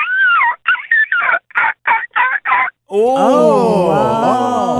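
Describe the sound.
A caller on a show, asked for their best seagull call, mimics a seagull with a long wavering squawk followed by a rapid series of six short, high yelping cries, then a dense burst of overlapping voices and noise follows.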